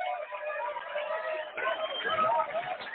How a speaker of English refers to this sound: You know, every time I hear all of our bus people cheering like that and all that, mm-hmm. it reminds me of the Muppet Show. Remember when Kermit would introduce someone and all the Muppets would raise their hands and all that and cheer?